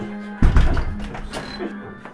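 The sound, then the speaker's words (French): A single heavy thud of a door shutting in an apartment building, a sudden low, solid bang that rings briefly and fades, following a faint steady hum, with no voices. “Jeanne s'adossa à la porte refermée.”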